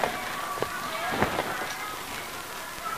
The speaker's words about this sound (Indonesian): Kan hujan kan? Hujan.